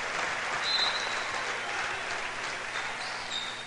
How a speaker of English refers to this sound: They get a nice hand from the Streaks crowd here with 2:31 to play, trailing 48-30.